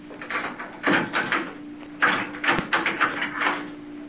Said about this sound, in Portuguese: Abra o portão, César.